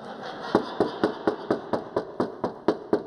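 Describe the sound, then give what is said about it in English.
Knocking on a grandmother's door in a quick, steady rhythm, about a dozen sharp, evenly spaced raps over a faint constant hum, with no voices. “And I just kept on knocking until she came to the door, because I knew she was in there.”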